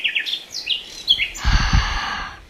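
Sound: nightingale singing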